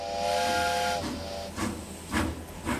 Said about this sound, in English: After the final man arrived, the conductor gave his formal "all aboard," and the train chugged away from the station.